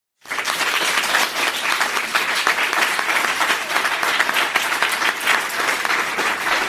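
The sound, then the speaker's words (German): A live audience, asked who in the room is brave, bursts into applause, a dense, steady wash of many hands clapping that starts abruptly and holds at full volume throughout, with no voices standing out. “denn ja, ihr habt richtig gehört, ich sitze hier gerade vor einem Publikum, es ist eine Live-Podcast-Aufnahme, möchte ich wissen, wer im Raum ist mutig? Bitte einmal klatschen.”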